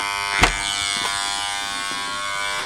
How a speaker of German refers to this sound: Gründerzeithäuser mit Stuckfassade und schmiedeeisernen Balkonen vorne dran. Und in einem davon klingel ich jetzt. Das ist ganz oben, ne? Okay.